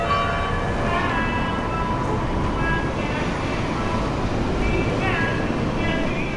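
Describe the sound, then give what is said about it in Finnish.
A steady, dense roar of city street traffic in Beirut, Lebanon, runs throughout, with low rumbling and faint tonal sounds rising and fading over the constant noise. “Beirutin liikenteen melun seasta ponnistaa toinenkin ääni.”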